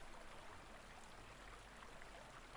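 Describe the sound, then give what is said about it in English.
A waterfall roars in a steady, continuous hiss of rushing water, even and unbroken throughout, with no voices or other sounds. “It's a fucking waterfall.”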